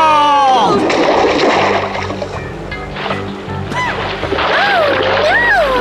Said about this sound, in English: Fell into the river. And he took Diego with him.